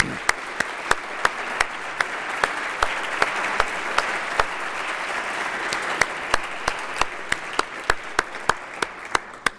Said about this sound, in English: Let's give Alan a big round of applause.